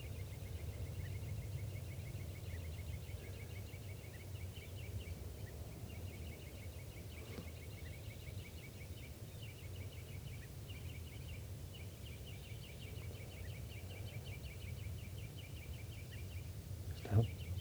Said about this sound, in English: Recording, the birds are just perched here for a long time giving alarm calls to each other, and now they're giving chitter notes.